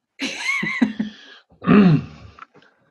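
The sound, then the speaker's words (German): A person coughs in two rough bursts, the second heavier and more strained, with a short pause between them and no talking. “Entschuldigung, vor lauter Corona muss ich schon husten.”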